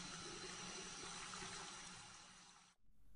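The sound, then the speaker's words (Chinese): Tap water runs in a steady, full rushing hiss for nearly three seconds while the water temperature is tested for bathing a cat, then is abruptly shut off, leaving only a faint low background. No one speaks. “先给你试试水温，反应不是很大嘛。”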